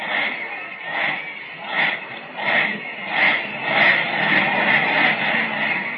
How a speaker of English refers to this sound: Time has been called. The Southwest band is forming a huge victory end down at the other end of the field. And just listen to that cheer.